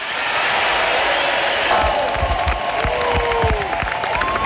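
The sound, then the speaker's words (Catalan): A large crowd at a mobilization rally roars and applauds steadily, filling in after a speaker's short phrases, with a dense wash of clapping and shouting, sharp claps standing out and a few whistles sliding over the noise. “Fa com tuits, gairebé, …, perquè fa frases curtes i que la gent, com deia, omple.”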